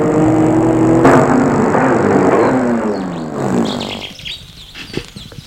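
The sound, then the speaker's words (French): A car engine rumbles and winds down as the vehicle slows and stops in front of the entrance of a white house in a park full of trees, leaving quiet with a few birds chirping in the background. “Il va arrêter la voiture devant l'entrée de la maison.”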